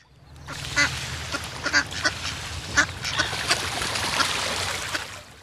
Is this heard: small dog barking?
no